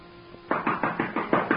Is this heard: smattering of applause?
no